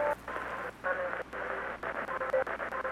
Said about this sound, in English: So why am I still getting interference?